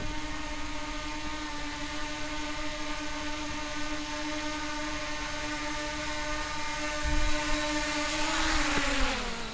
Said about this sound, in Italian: Perfetto. Bene. Ok, abbiamo fatto atterrare il drone.